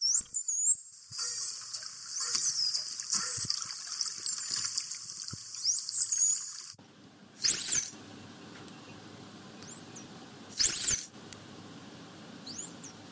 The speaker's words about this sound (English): And you sent us a few of those signature whistles over. We'll have a listen to those now.